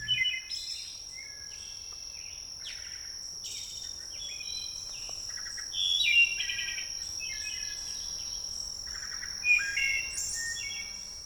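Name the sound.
wood thrush song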